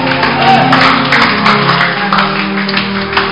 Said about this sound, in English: Clap for Jesus.